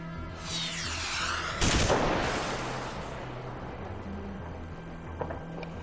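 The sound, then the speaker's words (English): A descending whistle of an incoming missile ends in a loud explosion, followed by a long rumbling roar and a few fainter sharp bangs like gunfire, at about 2 a.m. in the district of Fanjatan. No one speaks. “It was about 2 hours past midnight when the sound of a missile broke the silence.”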